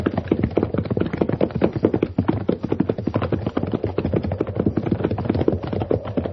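Rapid, steady clip-clopping of horse hooves goes on throughout, a dense run of sharp knocks at moderate loudness, with no talking over it.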